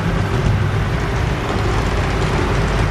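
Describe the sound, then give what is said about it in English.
A steady, dense roar of road traffic going by, loud and unbroken for the whole stretch, with heavy low rumble and no voices. “I'm going to cross the road now. I might get run over.”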